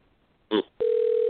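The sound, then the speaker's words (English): A phone line ringing: a short buzzy burst, then a steady, loud, mid-pitched ring tone that holds unbroken to the end. No one speaks. “Answer the phone.”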